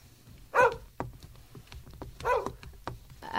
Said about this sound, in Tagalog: Teka, sino yung matandang babae na nasa labas ng bakod namin? Yung kinakahula ng aso namin.